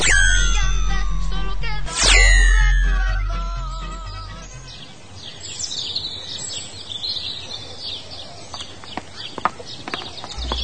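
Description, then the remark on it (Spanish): A shimmering magical chime and swooshing sweep give way to outdoor ambience with chirping birds and a horse's hooves clip-clopping in sharp, uneven steps as it heads toward the stable. “Bien, vale, ya vamos hacia el establo.”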